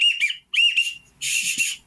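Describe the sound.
Two quick, clear, trilling whistles blown on a pintail whistle, a duck call imitating a pintail duck's call, followed by a breathy, hissing burst. No one speaks.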